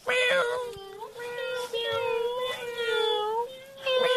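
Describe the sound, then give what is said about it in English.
Several people, prompted on a count of three, imitate a kitty cat, producing overlapping drawn-out meows in a steady chorus that rises and falls over a few seconds with brief gaps between voices. “Now, on a count of three, I want to hear noises like a kitty cat. Be a kitty cat.”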